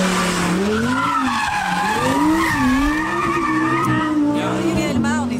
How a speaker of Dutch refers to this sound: Dit was een Skoda Fabia op een parkeerterrein van een grote supermarkt, hè? Nee. Dit was gewoon een lekkere, dikke V10 in de Audi R8.